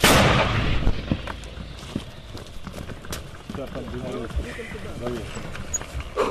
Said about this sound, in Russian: Бабахнули? Чудово бахнули. Чудово бабахнули. Старі міни не підводять, ні? Хлопці працюють 82-м калібром, вони працювали по легкій техніці, зараз будуть працювати по важкій вже техніці, по БТРам, БМП